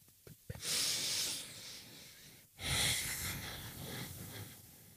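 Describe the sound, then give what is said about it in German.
Two long, deep breaths, each a slow airy rush in and out, with a brief pause between them and no talking, taken as a calming breathing exercise. “atmen. Tief. 10-mal. Okay, 5-mal reicht.”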